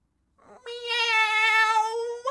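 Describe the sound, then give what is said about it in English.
A person mimics a kitten's meow: one long, high, whiny mew held for nearly two seconds, fairly loud, ending with a short breathy catch. “There was this one time I saw a little kitten, yeah? And it looked at me like this.”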